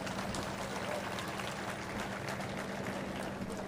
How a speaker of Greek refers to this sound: Πιο θερμό χειροκρότημα. Μπράβο.